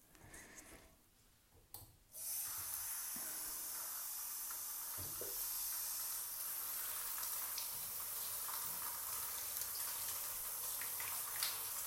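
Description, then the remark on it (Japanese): After about two seconds of near quiet, a shower switches on and water runs in a steady, close, hissing spray that continues unbroken to the end, with no talking. “先にシャワーで綺麗にしてから。”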